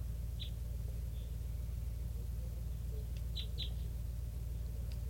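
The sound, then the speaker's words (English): A flock of very young juvenile type 3 birds, calling from trees near a net, gives a handful of short, high chirping calls at irregular intervals, fairly faint against a steady low rumble, with no talking. “So, recording, this flock looks like a bunch of very young juvenile type 3s, and one of them just escaped from the net, and they're flying off now.”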